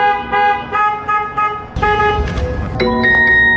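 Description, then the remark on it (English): A Waymo self-driving car's horn honks repeatedly and loudly in the middle of the night, a steady blaring tone broken into several pulses, with a harsher burst midway and another sustained honk near the end. No one speaks. “some of the noises that Waymo cars are making. We just want the Waymos to stop beeping at night.”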